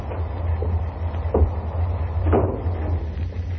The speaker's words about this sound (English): Let's go on in now. Will you open the door for me,